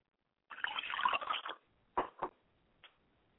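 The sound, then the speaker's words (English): Liquid is poured out as a libation to the spirit Obatala, in a splashing gush lasting about a second, followed by two quick spatters and a final small drip, with no voices. “I pour libation to my father's spirit, Obatala, and I say, I say.”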